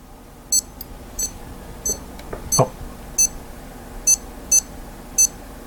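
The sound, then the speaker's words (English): A running watch's metronome cadence alert, set to 90 beats per minute during a run, beeps steadily, each beep marking the right foot striking the ground: short high-pitched electronic chirps repeating roughly every two-thirds of a second, with one slightly uneven gap and a brief thud in the middle. “And when you hear this, every time it beeps, beep, your right leg is hitting the ground.”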